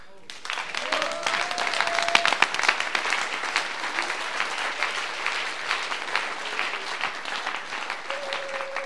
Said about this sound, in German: liebes Publikum, das dafür gesorgt hat, dass wir wirklich einen wunderbaren Rahmen haben, da wir Musikanten da herum musizieren, ein Applaus und ein Mittag war sagenhaft. Danke.